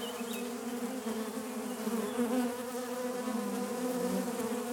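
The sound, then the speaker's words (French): A dense, continuous drone of many honeybees buzzing in flight under a walnut tree, coming for honey; a steady layered hum with no talking, a single bee briefly louder at the start. “Je suis sous un noyer et autour de moi, il y a des quantités d'abeilles qui volent, qui viennent chercher le miel.”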